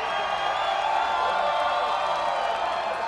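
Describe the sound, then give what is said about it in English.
A crowd cheers and whoops steadily, a dense wash of many voices with scattered clapping, loud and sustained the whole time without any single speaker standing out, greeting an elderly newly married couple as they emerge from their wedding ceremony in Mayor Newsom's office. “Last night, the elderly women married in a small ceremony in Mayor Newsom's office and then emerged to an adoring crowd.”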